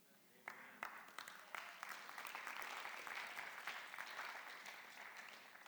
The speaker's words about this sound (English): Now, I get it, and I expected the Christians to clap. I really did.